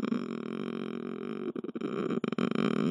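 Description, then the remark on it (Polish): A woman imitates a cat's purr with her voice, a steady, rough rumbling drone that breaks into a few short, choppy bursts near the end before resuming. “Odpowiedź: tak mruczy kot, a tak mruczałam ja.”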